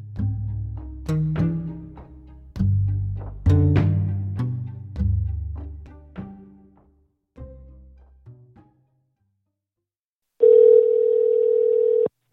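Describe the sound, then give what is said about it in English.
A few struck musical notes fade out, then after a brief pause a telephone ring tone sounds once, a steady buzzing tone of under two seconds, clear with no voices, as a phone call is placed to the town Public Works. “We're hitting the phones again for the umpteenth time, calling around to anyone and everyone who might know”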